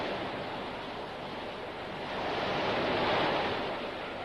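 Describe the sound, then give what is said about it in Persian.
Strong wind roars steadily over crashing sea waves at an island, a dense, continuous rush of surf and gusts that swells louder past the midpoint before easing slightly, with no voices present. “من که بیدی نیستم که با این بادا بلرزم.”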